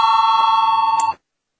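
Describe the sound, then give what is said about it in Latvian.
A parliamentary voting bell, rung to call a vote on a proposal, rings in one steady, loud electric peal for just over a second, buzzing with a fast tremor before cutting off abruptly into silence. “Lūdzu, zvanu, balsosim par 20. deputāta Dombrovas priekšlikumu.”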